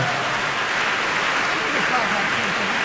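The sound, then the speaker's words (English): A steady burst of applause, many hands clapping together in a dense, even crackle that holds at the same loudness throughout, fairly loud. “Yeah, I think that deserves a round of applause.”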